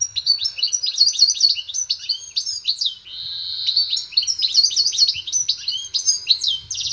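A goldfinch sings a continuous, rapid stream of bright twittering and tinkling notes, clear, running for several seconds with only a brief pause midway.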